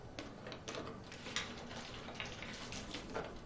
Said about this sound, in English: Is that gasoline? What are you doing? Why are you pouring that everywhere?